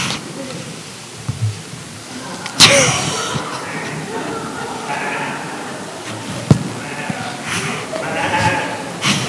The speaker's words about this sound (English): Now out of the hills by Bethlehem, there were shepherds watching their flocks in the night. Bob, what's a flock? It's a group of sheep, Larry.